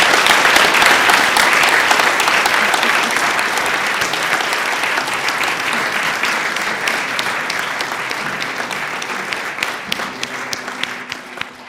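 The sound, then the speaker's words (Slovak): Sustained applause from a large audience for the catering (gastro) team at the end of a weekend event, dense clapping that stays loud for several seconds before gradually thinning out, with a few individual claps standing out near the end. “Tak neviem, ako vám chutilo celý tento víkend, ale myslím si, že gastrotím si zaslúžil jeden obrovský potlesk, pretože tú službu...”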